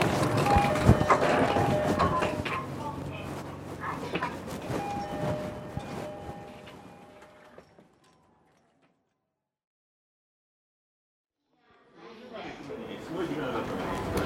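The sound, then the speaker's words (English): Rattling, droning noise of a crowded passenger train with a crowd's indistinct chatter and a steady whine fades into several seconds of silence, then the busy rumble and voices return. “Oh, fuck, this train is crowded.”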